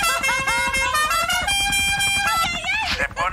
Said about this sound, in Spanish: Me gusta esa bocinita. Ahí está la novia de Puerto Rico. Toque la bocina, toque la bocina que me gusta.